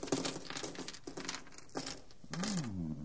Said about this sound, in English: Slave, open that bag there and pour the contents out upon the table.